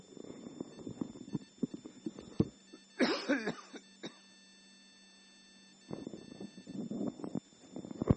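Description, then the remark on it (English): A harsh burst of coughing, two or three rough coughs in quick succession, set between quieter stretches of a low voice, followed by a brief silent pause. “Sorry, can't seem to get rid of this cough.”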